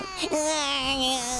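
A baby cries in one long, steady wail after a brief hiccuping start, loud, with no other voices.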